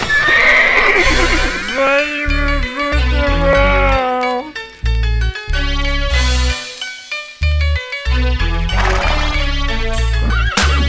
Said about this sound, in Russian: Этапе третьем на войну с конем поедем. На машине было бы удобнее, но не в этом веке. За победой поскочу галопом, то есть конь поскачет.